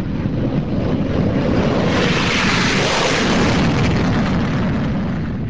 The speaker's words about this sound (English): Out on the Andrews airfield, the gray metal of whining F-16s matches the tones of an overcast sky. Each F-16 can carry 500 rounds of ammunition and up to 6 missiles. Ground crew check all systems and load up dummy weapons. Then the planes go.